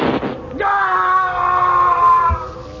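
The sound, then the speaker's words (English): A ray gun fires aboard a ship, the shot passing through a man and into a panel: a brief noisy burst, then a quick upward sweep into a loud, steady, buzzing electronic whine that holds for about two seconds before cutting off. “The shot went straight through him and into the panel.”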